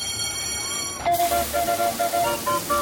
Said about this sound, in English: Step right up and grab a squirt gun. Step right up. Fill the clown's mouth with your sweet, sweet cold water.